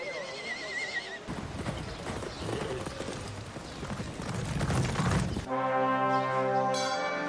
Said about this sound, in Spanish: ¡El caballo ya está listo!